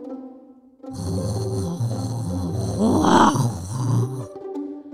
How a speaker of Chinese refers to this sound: 吼叫声还是不断传来。爷爷，奥利弗在爷爷身边大声地说，我有点怕那只大吼怪。